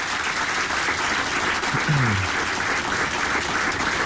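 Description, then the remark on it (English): Steady applause from a sizable crowd for a producer, a dense, even patter of many hands clapping at once, sustained at a fairly loud level throughout without any talking over it. “So a big round of applause for my producer who did all the work”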